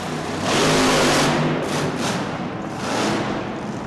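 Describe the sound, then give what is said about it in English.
A big, throaty monster truck engine roars and revs hard as the truck jounces its front wheels over a huddle of parked cars, its loud growl surging, easing briefly, then surging again with a rough, noisy edge. No one speaks. “To get these monsters all kinds of vertical, the monsters have to jounce their front wheels over a huddle of parked cars.”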